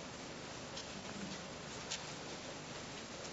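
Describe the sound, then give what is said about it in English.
Steady, soft rain hisses evenly throughout, a dense wash of pattering with a few slightly brighter drips standing out. Quiet and continuous, with no voices. “Well, we just practiced the who am I when we were listening to the rain.”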